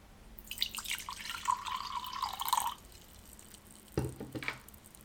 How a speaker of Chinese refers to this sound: 爸爸，爸爸，我帮你倒水。